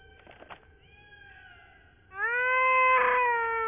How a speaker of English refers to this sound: What is it doing? The bird is calling to her babies. Her babies? Kevin's a girl?